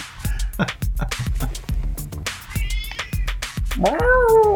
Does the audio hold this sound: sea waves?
no